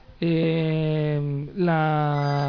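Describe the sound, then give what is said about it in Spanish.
A telephone rings with two long, steady buzzing tones, low-pitched and rich in overtones, separated by a brief gap. The ringing is loud and there is no talking. “Nos están llamando al teléfono.”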